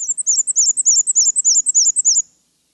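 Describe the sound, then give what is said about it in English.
A black-and-white warbler sings a thin, high-pitched series of rapid two-note squeaks, like a squeaky wheel, repeated about ten times for two seconds. The song is clear, with no other sounds. “The interesting thing about the black and white warbler is that it has an unusually long hind toe and claw, which will help it grab onto the tree bark as it climbs all around the branches.”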